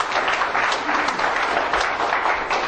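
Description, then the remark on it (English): An audience in a church applauds steadily, many hands clapping together in a dense, continuous wash of sound that stays loud and even throughout, with no voices standing out. “Give a hand of applause in his house.”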